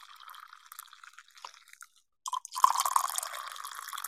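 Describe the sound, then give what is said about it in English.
Coffee pours into a cup, starting as a soft, uneven trickle, then a brief pause before a louder, steady splashing stream with a bright, hissy tone. No one speaks. “Here's a cup of coffee for you.”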